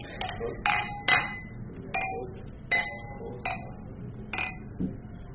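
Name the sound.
glasses clinking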